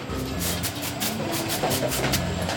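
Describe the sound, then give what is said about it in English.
An optical sorter from the Netherlands separates plastics by color. It fires short, sharp puffs of air at clear plastics such as water bottles in a quick, irregular series. Each puff is a crisp hiss over a loud, steady mechanical rumble and clatter. No one speaks. “Right here, the scanner is looking at the materials as they come by, and when it sees a clear plastic, like a clear plastic water bottle, it hits it with a puff of air, and you can hear it.”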